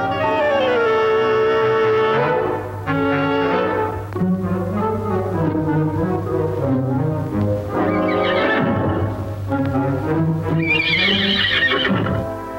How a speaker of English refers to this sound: Meanwhile, in the fields, Snowball motions Boxer forward toward a harvester. The big horse nuzzles at the harvester's makeshift harness until Benjamin comes forward and holds it off the ground so that Boxer can get his head through it.